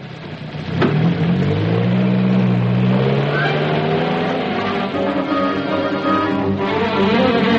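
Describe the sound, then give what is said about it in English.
A car engine roars to life and revs hard, its pitch climbing steadily as the vehicle accelerates away, loud for several seconds with a constant mechanical drone. “Turn round quick, Constable, after them.”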